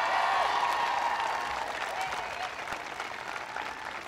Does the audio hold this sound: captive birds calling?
no